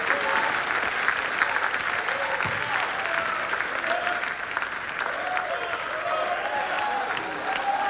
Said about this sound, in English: Let's give the Lord one more hand clap of praise if we can tonight. Hallelujah.